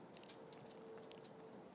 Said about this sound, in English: Uh-oh, and it's raining. It's in, just slightly starting to rain. The wind's nothing like it was. It's just a little tiny breeze. It's definitely starting to rain. It's only spitting at the moment, but